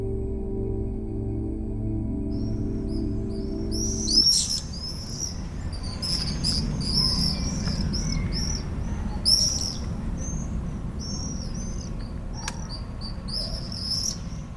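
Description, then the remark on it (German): Shrill, high-pitched screams of common swifts in a summer evening sky burst out in repeated rapid bursts against a steady low rumble, following a few seconds of humming at the start. “Das Geschrei im sommerlichen Abendhimmel und damit das Gefühl, an lauwarmen Sommerabenden den Sommer selbst zu Gast zu haben.”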